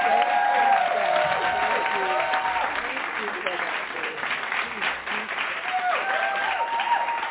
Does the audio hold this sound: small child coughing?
no